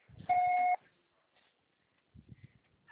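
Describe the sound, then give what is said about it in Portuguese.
A single loud, steady electronic beep at a mid pitch holds for about half a second. It is a voicemail tone that signals the start of message recording. Brief muffled speech comes before it and again afterward. “Grave seu recado agora.”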